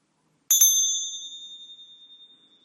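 A single bright strike of a small meditation bell, marking the end of a part of a guided MBSR mindfulness meditation, rings out clearly, its pure high tone shimmering and slowly fading over a couple of seconds in otherwise silent surroundings.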